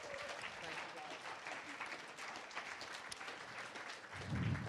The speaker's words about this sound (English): Why don't we give these guys a round of applause, guys?